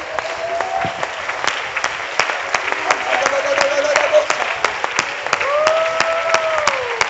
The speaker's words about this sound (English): Oh, I wish somebody would magnify the Lord in the house. Come on, clap your hands and magnify.